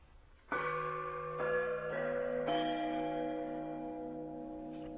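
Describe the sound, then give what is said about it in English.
Large metal soup pots, each with a hole cut in the bottom and hung upside down, struck near the top like gongs: several overlapping strikes ring out with bright, sustained bell-like tones, each new hit layering over the lingering hum of the last. Fairly loud, no talking. “and found these large soup, I guess they're soup pots, so I cut a hole in the bottom, hung them upside down, and I hit them near the top, furthest away from the what would normally be the bottom of the pot, and they sound kind of gong-like.”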